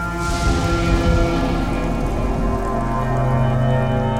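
Steady rain falls during a lightning storm, a dense continuous patter at a constant loudness, with a low sustained droning tone running underneath. No voices are heard.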